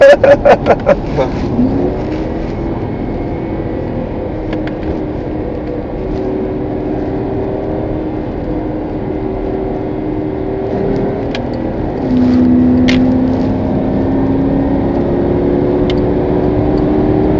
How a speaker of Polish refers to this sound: Ale twoja mama, widzę, lubi depnąć ten samochód. Tam tak, moja mama w ogóle bardzo lubi szybko jechać, no, lubi samochody.